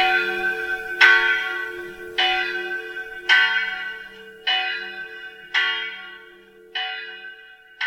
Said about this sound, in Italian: Fu arrestato nelle sue fusioni dalle campane che mandavano all'aria i più lieti squilli che avesse mai uditi.